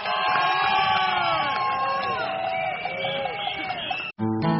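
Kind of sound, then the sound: crowd, audience clapping and cheering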